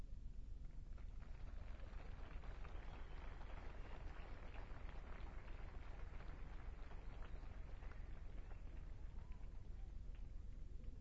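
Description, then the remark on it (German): Steady light rain patters outdoors during a Pentecost church service, a dense, even hiss of drops with no voices and no breaks in the sound. “Bei solcher Botschaft hört man zu, auch wenn es ein bisschen regnet.”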